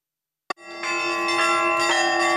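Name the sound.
church bells ringing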